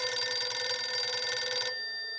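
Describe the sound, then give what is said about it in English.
A home telephone bell rings with a rapid, buzzing trill for about a second and a half, part of a series of harassing calls, then cuts off and leaves a fading metallic hum. It is loud, with no voices. “Somehow, McElroy got the Clements' home phone number and began a series of harassing calls.”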